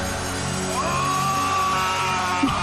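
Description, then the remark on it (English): A man down on his knees lets out a loud, drawn-out yell that holds one strained pitch for nearly two seconds, rising over a dense, roaring background, then cuts off abruptly with a thud. “And then he lets out this fucking monstrous scream.”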